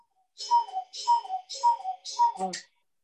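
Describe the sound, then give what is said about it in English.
A cuckoo clock calls four times in a quick, even rhythm, each two-note "cuckoo" paired with a breathy mechanical puff, ending in a soft clunk. It is moderately loud, with no talking. “Yeah, nice commentary with the cuckoo there.”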